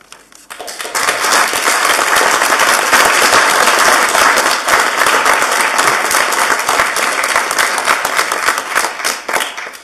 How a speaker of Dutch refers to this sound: Dus ik verzoek u toch om niet nogmaals te applaudisseren of andere geluiden of tekenen te doen blijken.